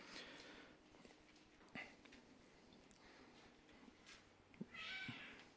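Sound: cat meowing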